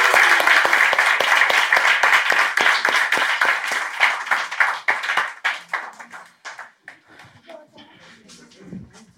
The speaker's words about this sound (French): Je vais inviter les musiciens à s'approcher, puis j'aimerais qu'on puisse célébrer une dernière fois, applaudir nos beaux baptisés tous ensemble.